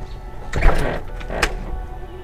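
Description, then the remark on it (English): A man walks into a house and pushes the door shut, with a scraping swing followed by a solid thud and a fainter knock, over a low steady background hum. No one speaks. “Jack walked into the house and closed the door.”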